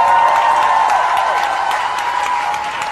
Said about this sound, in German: Ein Applaus mal, weil der hat ja sehr gut gearbeitet.